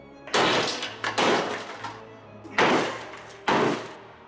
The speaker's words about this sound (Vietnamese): Ông ta vơ hết tất cả đồ đạc có thể cầm được, không ngừng đập mạnh vào mỗi cánh cửa sổ.